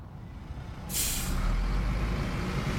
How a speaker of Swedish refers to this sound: Bussen rullar långsamt ut ur staden.